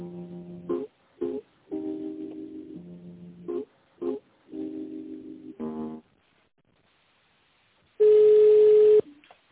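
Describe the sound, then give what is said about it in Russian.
Telephone touch-tone dialing of an employee's internal extension number after a company phone system's prompt: a run of short electronic beeps and longer buzzy tones in an uneven rhythm, then a brief silence and one loud, steady tone at the end. No one speaks. “Пожалуйста, наберите в тональном режиме внутренний номер сотрудника или дождитесь ответа.”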